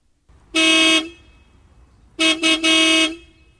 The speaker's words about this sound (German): hup auch mal wie die anderen Leute, das ist voll cool.